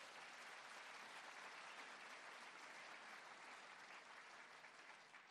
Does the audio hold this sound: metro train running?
no